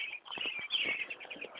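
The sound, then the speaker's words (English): Birds chirping outdoors on a warm, sunny day during a walk, in a steady, busy chorus of overlapping tweets at moderate volume, with a few soft low thumps underneath and no one talking. “There's some birds here too.”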